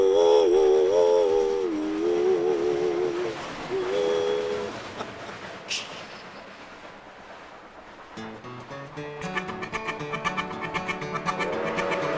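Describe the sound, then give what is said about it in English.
A steam train engine chugs along in a steady rhythm, with long whistle-like tones sounding over it at first and faster, punchier puffs building toward the end. “Puffing and a chugging, you know that engine will reach the summit and go down the other side.”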